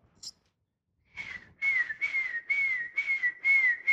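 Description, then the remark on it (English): A person whistles a seagull cry to call gulls, which know the whistle means free food such as stale bread or leftover chicken: a short high chirp, then a run of six or so loud, steady, high-pitched whistled calls repeated in a quick rhythm. “Want to hear my seagull cry?”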